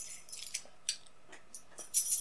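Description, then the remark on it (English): The tags on a female dog's collar jingle softly as she moves about, in a string of irregular, high-pitched metallic clinks, ending in a slightly louder flurry of tinkling. No one speaks. “Anyway, I've had, by the way, a lot of tinkly sounds in the background of my audio.”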